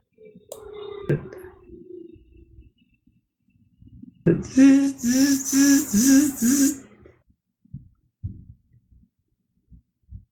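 A 3D printer runs, its motors giving off a steady hum and then a loud, buzzy whine that pulses rhythmically for a few seconds, followed by scattered soft clicks.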